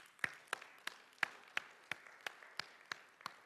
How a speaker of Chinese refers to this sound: 所以我提议哈，是吧？这个大家可以的话，我们就给在座的这个妈妈们啊，给他们一个很响亮的掌声，啊。